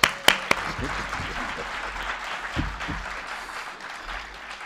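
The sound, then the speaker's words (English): An audience breaks into sustained applause for Dr. Helene Gale, a dense wash of clapping that holds steady for several seconds with a few sharp claps standing out at the start. “Okay, you all were hesitant to applaud for me earlier, but she's my shero, so I want you to applaud for her, Dr.”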